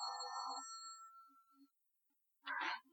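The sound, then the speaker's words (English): A telephone rings with a bright, sustained electronic tone that fades out, followed after a pause by another short, harsh burst of sound. “Answer the phone, Ruth.”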